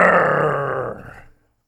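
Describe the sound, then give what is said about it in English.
A voice imitates a lion's roar while playing the lion in a game of looking for a lion in the den of a home. The roar is one long, rough, growling bellow that holds loud and steady, then tapers and cuts off after just over a second. “And they'd come across the living room looking for a lion. They could hear him back there in the den.”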